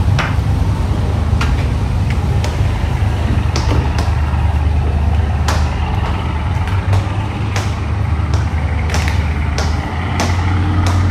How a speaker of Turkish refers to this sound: Şimdi burada minik bir vapurun içi var.